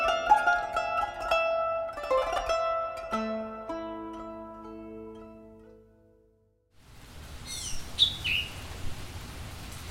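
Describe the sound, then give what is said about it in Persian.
Gentle tonal music fades into quiet outdoor ambience after rain, where a distant bird sings a few brief, high chirps over a soft background hiss. “لحظه ای که بعدش سکوت میپیچه توی هوا، زمین نفس میکشه، درخت ها برق میزنه و از دور صدای پرندهی میاد که انگار داره از تولد دوباره جهان آواز میکنه.”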